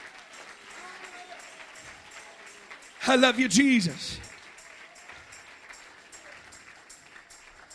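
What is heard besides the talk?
audience clapping hands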